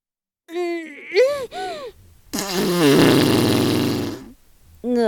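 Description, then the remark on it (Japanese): A loud, drawn-out, buzzy fart from a middle-aged woman rumbles for about two seconds, right after a few short breathy vocal sounds from her, then trails off into quiet. “ちゃんとおばさんのおならかあげ。”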